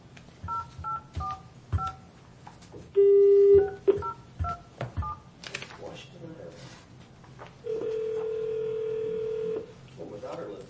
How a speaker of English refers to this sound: I'm going to try to give them a phone call since they tried giving us a call.